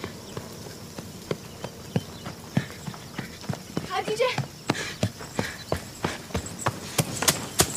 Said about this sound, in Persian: خدیجه تبر رو رها میکنه و سوار اسب میشه و میره.